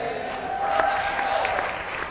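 An audience applauding, a dense, steady patter of many hands clapping for a couple of seconds, with faint voices murmuring underneath.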